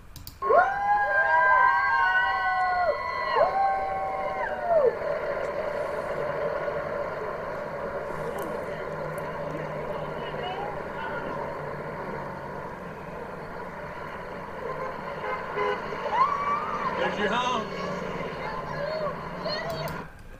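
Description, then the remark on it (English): Several horns of the president's motorcade blare in overlapping, sustained honks as it passes people holding up a sign reading "Honk for Q", then another brief honk comes later, over steady traffic rumble and a murmur of crowd voices. “In this next post, a Q follower posted a video on Reddit showing the president's motorcade honking as they went by people who were holding up a sign, "Honk for Q."”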